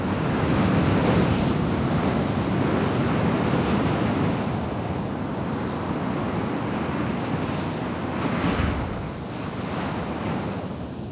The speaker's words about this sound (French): Comme vous pouvez l'entendre, les éléments se déchaînent. Là, je suis contre une dune de sable, d'un beau sable orangé, qui fait 50-60 mètres de haut. Et il y a un vent qui se déchaîne, terrible.